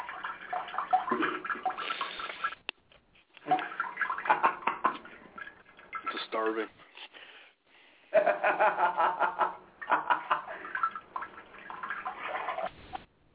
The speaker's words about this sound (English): Always got to hear you piss in my ear. The sounds of the ocean. That must be one horrible ocean, Dad. Man, if you in that ocean, yeah. Making your own tidal waves.